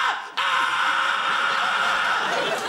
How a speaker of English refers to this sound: I'm having someone put a primal scream!